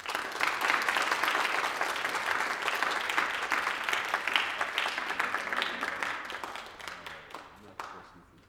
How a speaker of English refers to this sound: So please join me in giving these folks some applause.